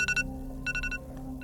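household object, alarm clock ringing

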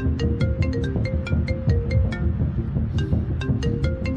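signal or alarm, iPhone ringtone

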